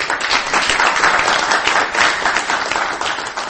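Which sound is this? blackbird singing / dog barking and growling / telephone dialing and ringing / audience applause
audience applause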